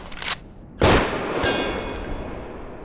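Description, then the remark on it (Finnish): Loud, sharp rifle shots crack outdoors, two or three in quick succession, followed by a bright metallic ring and fainter pings as sheet-metal targets are struck from 900 metres and knocked over. “Ammun silti peltiset jantteritaulut ensimmäistä kertaa 900 metristä kumoon.”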